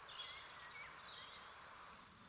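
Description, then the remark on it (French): Thin, very high-pitched bird calls ring out in quick, shimmering bursts over a soft forest hush, faint, with no voices present. “Derrière le bruit du pivert, il entend comme un autre chant. De petits cris très aigus qui se fondent dans la forêt.”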